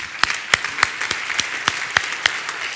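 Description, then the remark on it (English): An audience applauds together at a spiritual community service after a prayer, a dense wash of clapping from many hands with a few sharper claps standing out in a steady rhythm. It stays at a moderate level throughout, with no talking. “Let's applaud this day.”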